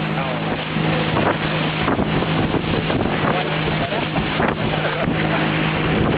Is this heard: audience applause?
no